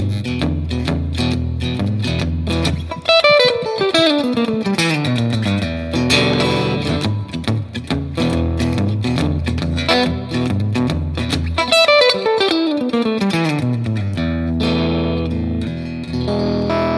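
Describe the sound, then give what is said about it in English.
A fast, distorted electric guitar blues lick in E, played loud with rapid descending note runs that repeat twice, each ending on a ringing chord, with no talking over it. “Now, if you play that with a bit of distortion and some speed,”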